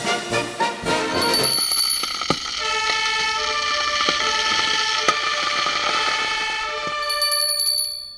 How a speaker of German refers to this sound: Hört ihr dieses Glöckchen hier? Und jetzt achtet mal drauf, wie oft das Glöckchen läutet.